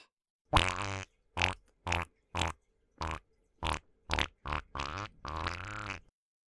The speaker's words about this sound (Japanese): おなら止まんない。